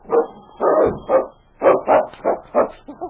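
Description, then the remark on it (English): A dog named King barks and whines in a quick run of about eight loud bursts, some clipped and some drawn out, while clawing at a solid closed door after being left behind, with no one speaking. “He barked and whined and clawed, but the door was solid.”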